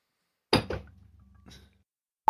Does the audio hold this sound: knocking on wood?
yes